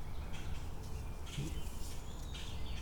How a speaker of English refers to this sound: Okay, I hear yappy chappy birds, but I don't see anything that they might be.